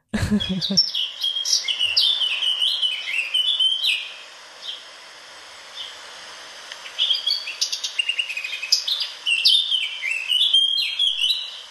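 A Eurasian blackcap sings, rich fluting warbles and quick chattering notes in two bursts with a short pause between them. No voices.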